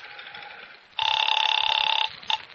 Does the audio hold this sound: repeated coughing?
no